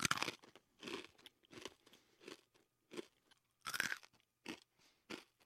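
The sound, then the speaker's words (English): Someone chews a salty, crunchy protein cake, with about ten loud, crackly bites in an irregular rhythm separated by short quiet gaps. “A year later, we were all eating 3 protein cakes a day. There was nothing else. Salty, crunchy, and bland.”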